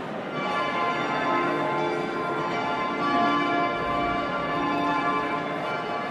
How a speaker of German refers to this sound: Was wir hier hören, sind Glocken, ein Glockengeläut. Nicht zu verwechseln mit einem Glockenspiel. Das hat sich nämlich der Abt des Klosters angeschafft und diese Glocken dann auch so stimmen lassen, dass man sie spielen kann.